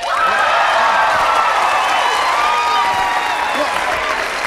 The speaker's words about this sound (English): What? No, come on. No, don't applaud. Don't applaud.